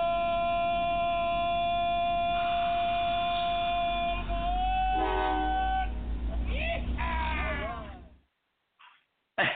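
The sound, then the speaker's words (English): A train rumbles steadily along the rails with long, loud horn tones sounding over it, then the noise cuts off abruptly near the end, leaving near silence. “We're on the train, folks.”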